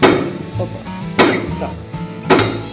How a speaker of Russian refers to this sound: Так работает станок, который режет плиты керамогранита на части. Керамогранит – это строительный материал. Из него делают напольную плитку и мозаичные картины.